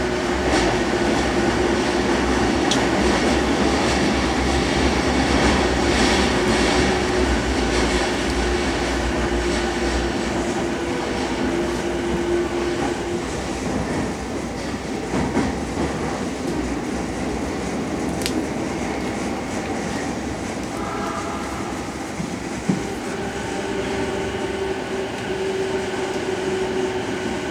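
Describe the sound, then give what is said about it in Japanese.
A Tokyo Metro Chiyoda Line subway train bound for Matsudo via Otemachi, Kita-Senju and the JR Joban Line roars steadily along the tracks toward Hibiya, a loud, continuous rumble with a droning motor whine and occasional rattles and clanks, heard from inside the car with no voices. “この列車は、大手町、西日本、北千住方面、JR 常磐線、松戸行きです。”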